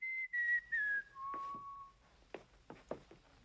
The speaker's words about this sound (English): whistles.